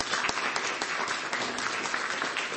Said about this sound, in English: Fantastic singing. Let's give them another applause.